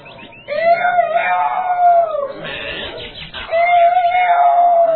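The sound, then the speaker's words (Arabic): An old rooster that has recovered from illness crows loudly twice in a row in the forest, each call a long, drawn-out, strained cry with a short gap between, clear with no talking. “نظر جيدا فإذا بصاحبه الديك المريض قد شفي وقد عاد يصيح بصوت عال في الغابة.”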